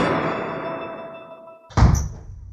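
A fading, ringing tone trails off before a sudden loud knock lands on a door, a short cluster of heavy thuds near the end with no voices.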